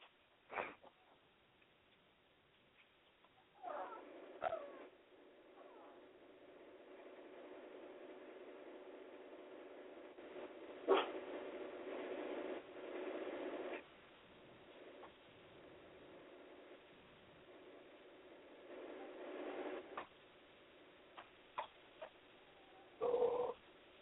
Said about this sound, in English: You hear the dog in the background. That's High Boy's. That's a dog in the background. He's just annoyed. Yeah, that's High Boy's mom's dog.